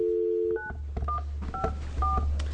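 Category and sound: signal or alarm, telephone keypad dialing tones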